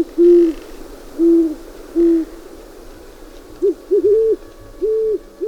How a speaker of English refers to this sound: Remember to keep your eyes and ears open for great horned owls as they begin courting in December. The pair often have a beautiful duet, with the male having a deeper voice than the female.